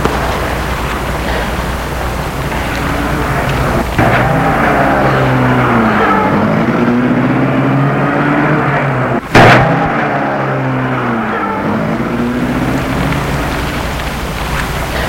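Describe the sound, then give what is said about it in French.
A man starts a car engine and pulls away at night, its loud rumble rising and falling in pitch through several revs over a steady hiss, with a brief sharp burst partway through. “Mais il met la voiture en marche.”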